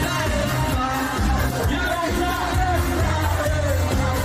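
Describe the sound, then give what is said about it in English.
A large crowd sings the chant "May your village burn" in unison, many loud voices blending into a steady, rhythmic melody that carries on without a break for the whole stretch. “A crowd is singing, "May your village burn."”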